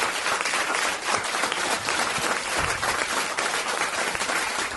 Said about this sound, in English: Can we have a big round of applause to Evan on sound and Craig on camera today? Thank you so much.